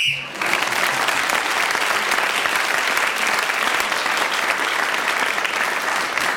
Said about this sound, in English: they were clapping Clement Freud for speaking as the whistle went and not for what he said